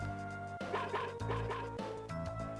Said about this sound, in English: Shug's barking. What's that?